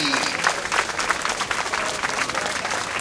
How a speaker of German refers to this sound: Bringt die Prachtexemplare auf die Bühne! Applaus für unsere Zucchini!